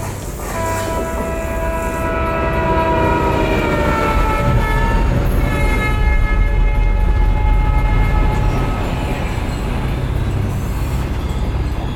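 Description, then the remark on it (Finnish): A train rumbles past on the rails, making the rails shake, a steady loud low roar for the whole stretch, with sustained horn-like tones sounding over it in the first half. No one speaks. “Sitten mä tunsin, että kiskot alkaa tärisee. Mä tulin alas ja juna meni ohitse.”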